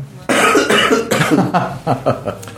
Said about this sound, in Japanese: 相変わらず咳が止まらず、 咳が、はい、昨日ぐらいから